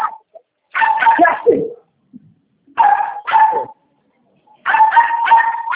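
A female dog barks and whimpers in three loud bursts of rapid, high-pitched yelps and whines, separated by short pauses, with no one talking.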